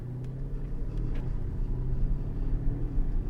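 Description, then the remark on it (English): A car engine runs with a steady low rumble that builds slightly as the car pulls away onto the road, a continuous droning hum with no talking over it. “Right, let's get this car on the road and I'll give you a few observations about the machine.”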